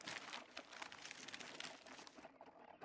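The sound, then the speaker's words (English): Continuous rustling and crinkling of the pages of a copy of that day's Courier newspaper, crisp bursts of handled paper running the whole time with no voices, fairly soft overall. “Let me see that paper.”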